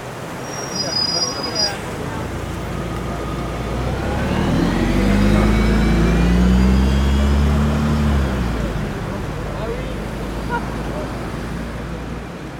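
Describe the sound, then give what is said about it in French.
A boat engine throbs at a low idle at a canal lock where boats wait their turn, its rumble swelling to a deeper drone midway before easing back, over a steady wash of outdoor background noise. “Même si l'on s'y attarde aussi volontiers à suivre les manèges de l'écluse et des bateaux qui attendent leur tour.”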